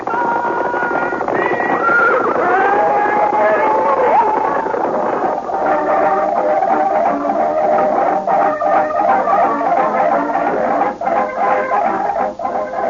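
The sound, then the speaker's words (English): A horse whinnies with rising and falling cries over a steady drum of galloping hooves as riders ride fast and hard, the rapid beat continuing loudly after the neighing fades. “They're riding fast, they're riding hard.”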